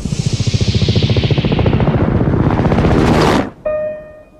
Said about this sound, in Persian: اول نقطه سیاه بود، وقتی اومد بالا سرمون دیدیم هلیکوپتره.